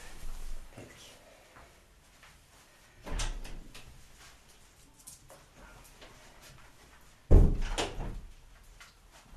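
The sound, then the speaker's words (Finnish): A door being opened to let a dog that was scratching behind it into a room: a soft knock early on, a clunk and creak around the middle, then a sharper, louder thud near the end, with quiet shuffling in between and no talking. “Mä voin kokeilla päästää sen sisään, jos se asettuisi siitä.”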